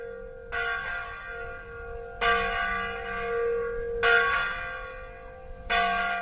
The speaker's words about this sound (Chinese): 在弥撒开始的30分钟以前，罗岩圣堂的钟声传遍了整个小村，村里面的人开始前往圣堂望弥撒。